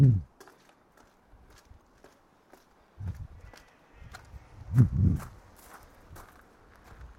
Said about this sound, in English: Now descend the stairs. Your footsteps echo.